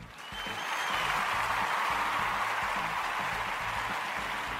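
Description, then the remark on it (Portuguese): A steady burst of applause from many hands, a dense, even crackle that swells within the first half second and holds at a constant loudness with no voices. “E por isso, aplaudimos.”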